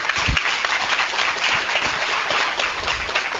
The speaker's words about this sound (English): And also, let's give a round of applause as normal to Annette and Brandon for their service here at Bella this morning. Thank you.